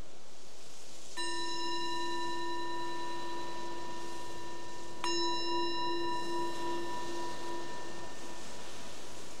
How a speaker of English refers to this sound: The bell is the invitation to let go of whatever you were doing before and just be here.